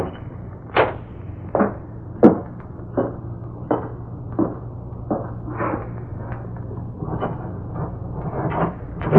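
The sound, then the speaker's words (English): A door that was thought to be locked, but is not, is opened with a series of dry clicks and wooden knocks, one sharper than the rest, over a steady low hum. No one speaks. “Thought this door was locked, and it ain't.”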